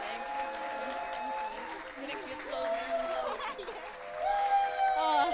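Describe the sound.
A church audience at Hope Community Church applauds with sustained, dense hand clapping honoring a pastor as she comes up to the front, holding steady for several seconds and swelling louder near the end, with scattered voices and cheers mixed into the clapping.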